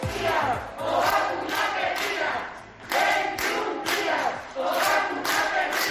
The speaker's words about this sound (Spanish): Este es el sonido que deja la protesta de los sanitarios del Área 3 de Salud por los retrasos en la administración de la segunda dosis de la vacuna.